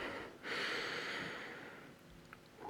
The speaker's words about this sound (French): Donc je vais pas vous faire des vocalises, je vais juste prendre une respiration ou deux et puis je vais y aller.